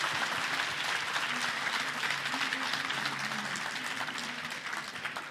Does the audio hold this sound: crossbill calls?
no